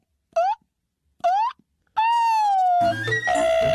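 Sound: siren sound effect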